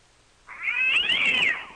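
A cat scream sound effect: a loud, drawn-out yowl that rises in pitch and then sags, heard once on its own after a brief moment of quiet.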